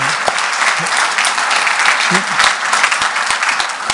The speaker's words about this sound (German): Jetzt lasst uns mal klatschen für die Online-Gemeinde, die zugeschaltet ist. Halleluja.